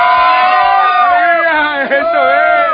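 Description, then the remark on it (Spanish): A loud, dense crowd in the Ricaurte neighbourhood cheers and shouts together on a sunny day, many voices overlapping in a sustained roar of excitement, with a brief dip near the end before the yelling surges again. “¿Cómo es ese grito, Dios mío? ¿Cómo fue que gritó?”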